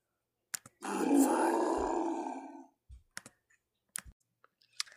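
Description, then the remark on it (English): A monkey gives a long, rough, throaty grunt lasting about two seconds, fairly loud, followed by scattered short clicks and taps with no talking. “Hey, little monkeys! How are you doing?”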